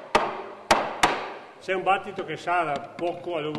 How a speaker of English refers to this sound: grabs some cheese from a rack, then bangs it out of its plastic mold to check the aging process.